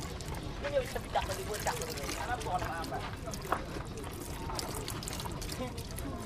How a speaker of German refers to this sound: Ein Knabe vermischt das Puder mit Wasser und gießt es in ein Sieb. Der Dreck bleibt hängen, der Goldstaub passt hindurch.